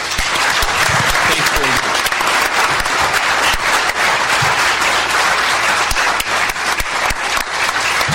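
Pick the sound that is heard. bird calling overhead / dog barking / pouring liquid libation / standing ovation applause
standing ovation applause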